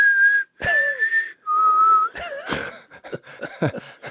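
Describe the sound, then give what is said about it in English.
A person whistles a western film theme, three long sustained notes with slight pitch bends, followed by a burst of breathy, fluttering mouth sounds and clicks. “you know, I'll do my little dove call, that little, and then I'll whistle.”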